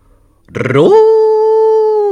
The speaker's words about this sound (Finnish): Täällä puhuu viidakon mahtavin leijonanpentu Roar. Hän, jolla on viidakon uljain kuono ja hienoimmat pikkutassut, ja kuulitte karjuntani.